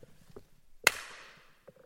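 A single sharp hand clap, made to test how long the sound reverberates, rings out in the small hall (kleiner Saal), followed by a long echoing tail that fades over about half a second, with faint murmuring voices before and after.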